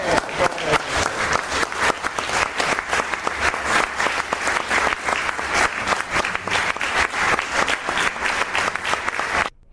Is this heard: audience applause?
yes